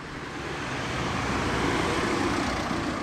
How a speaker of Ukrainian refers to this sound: Але побачила з долини, як великий біло-синій автобус виїхав із-за рогу і зупинився.